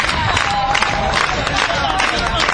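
crowd applause and cheering

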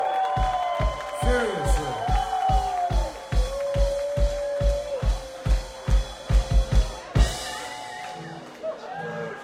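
crowd cheering

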